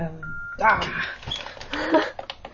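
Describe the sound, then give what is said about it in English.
A phone gives a short, steady electronic beep at the very start, then voices take over and talk continues over the rest of the moment. “Is that going to keep beeping there?”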